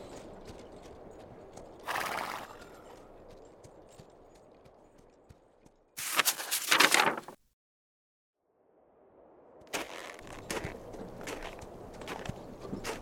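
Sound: horse hooves clip-clopping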